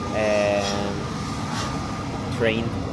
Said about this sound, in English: It's a train station. Hope you can hear anything with the noise.